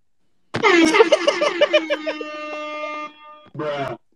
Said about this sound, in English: Man, you're delayed with that air horn, man.